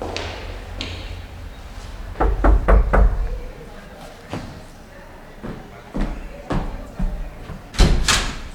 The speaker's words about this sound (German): Der erste Detektiv durchquerte den engen Gang, hielt vor der Tür mit der Nummer 3 und klopfte.